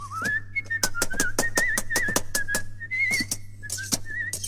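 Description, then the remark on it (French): A mason whistles a wandering, continuous tune while working on a brick house, as sharp knocks or taps repeat irregularly throughout, over a steady low hum. No one speaks. “Il ne sentait pas Loustique, mais en travaillant, il aimait bien siffler.”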